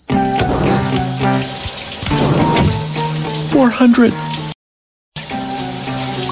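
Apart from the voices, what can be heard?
shower water running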